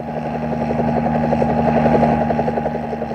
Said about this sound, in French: Un hélicoptère de la police survole la route nationale. Signale par radio les bouchons, les accidents. Vol, libellule, demoiselle d'acier, au-dessus du paysage ensoleillé.